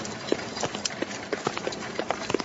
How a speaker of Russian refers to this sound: Лошадь высекает искры подковами.